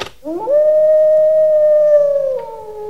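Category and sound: animal, wolf howling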